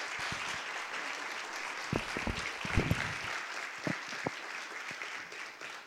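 An audience applauds steadily throughout, a dense wash of clapping at even volume, with a few sharper individual claps standing out and a brief swell partway through.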